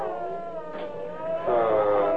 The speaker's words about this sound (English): The high squeak of that dolphin when it slowed down this way. Listen.